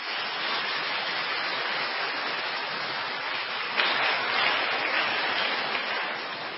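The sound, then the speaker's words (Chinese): An audience applauds steadily to thank a man for his testimony, a dense wash of many hands clapping at an even level that swells slightly midway and holds, with no voices heard over it. “我们再次鼓掌，谢谢他的见证，感谢主。”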